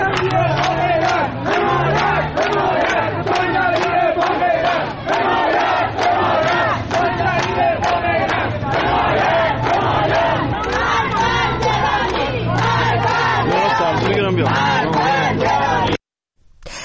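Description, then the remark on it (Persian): A large protest crowd, reportedly in Shiraz, Iran, chants the slogan 'death to the dictator' in unison, loud and rhythmic, with many voices shouting together in repeated bursts that continue steadily for about sixteen seconds before cutting off. “گفته شده که شعار مرگ بر دیکتاتور در شیراز سر داده شده”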